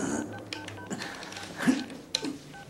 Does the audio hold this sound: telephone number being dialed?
yes